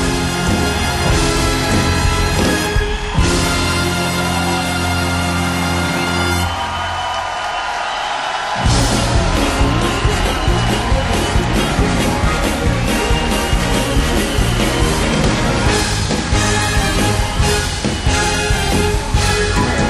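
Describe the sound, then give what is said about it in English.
A concert crowd cheers and roars loudly and continuously, a dense wall of noise that swells after a brief dip, with sustained low musical tones underneath at first. “the crowd are going wild.”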